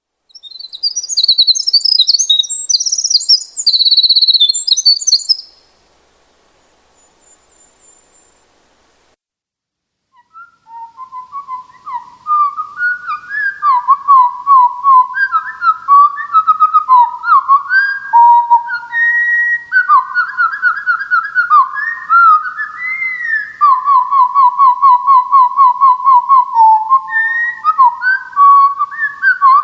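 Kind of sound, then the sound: bird, bird song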